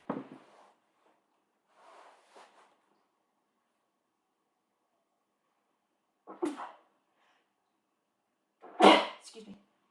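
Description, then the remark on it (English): A sharp sneeze bursts out loudly near the end, preceded by a shorter breathy burst and a few faint, scattered vocal sounds in otherwise quiet surroundings. “Sorry, I sneezed.”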